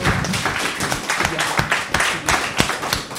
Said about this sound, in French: Bon, on va t'applaudir, t'es un bon timide.